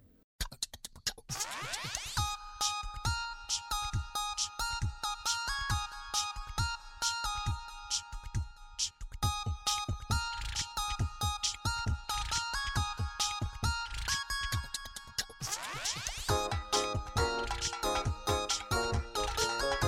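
A bright instrumental song melody plays on an FM radio programme (98.4 MHz), with sustained tonal notes over a quick, regular rhythmic pulse, fairly loud and continuous throughout, with no voices heard.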